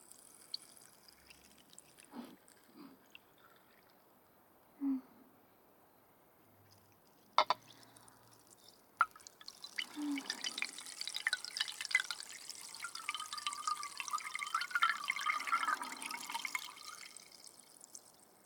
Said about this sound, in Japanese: グラスに入った炭酸水を元のガラスの瓶に戻すと、いい音でしょ？これお気に入りなんだ。炭酸の音、いっぱい聞かせてあげるね。